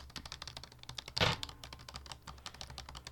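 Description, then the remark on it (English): Rapid typing on a computer keyboard: a steady patter of small, crisp key clicks, with one heavier, louder clack about a third of the way through, and no voices. “Or the, like as you, even typing.”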